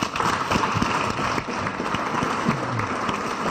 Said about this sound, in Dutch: geef me een heel groot applaus.